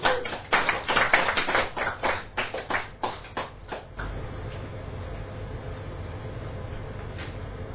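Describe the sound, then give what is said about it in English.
A short, sharp burst of clapping tapers off over about four seconds, then gives way to a steady low background rumble. “A round of applause.”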